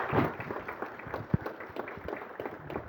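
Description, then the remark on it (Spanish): A crowd applauds the leaders of three committees and their families, a dense patter of many hands clapping at a steady, moderate level with no voices over it, one sharper clap standing out partway through. “Y que primero de todo, un tremendo aplauso para ustedes y para cada uno de sus familias.”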